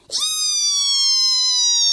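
A squeaky door creaks shut in one long, loud, high-pitched whine that holds steady and slowly sinks in pitch over about two seconds.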